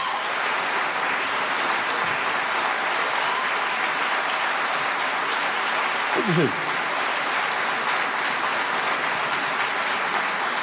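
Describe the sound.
A large audience at an evening stage event applauds steadily and loudly throughout to welcome a guest onto the stage, a dense wash of clapping that never lets up, with one man briefly speaking over it partway through.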